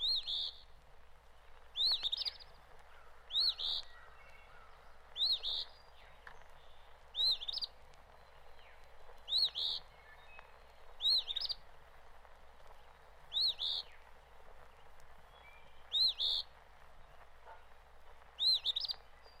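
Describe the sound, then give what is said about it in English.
An eastern phoebe repeats its raspy two-part "fee-bee" call about a dozen times at a steady, unhurried pace, clear against a quiet outdoor background. “Soon after the bluebird returns from the south, we expect to hear the phoebe calling its name.”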